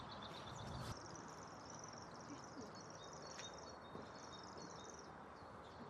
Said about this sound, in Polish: No świerszczak. Słychać świerszczaka. No, to jest nowość.